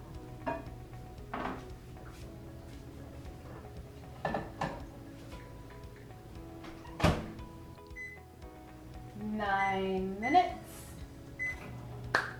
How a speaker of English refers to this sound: Okay, so we're gonna throw this in here for up to 9 minutes at the highest setting that this microwave has, and we will get back to you.